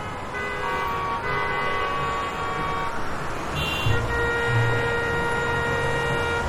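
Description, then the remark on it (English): Several car horns honk in overlapping sustained blasts over a dense rumble of idling engines, a congested jam of vehicles in a packed parking lot on Black Friday, with no voices. “Heavy traffic in a parking lot.”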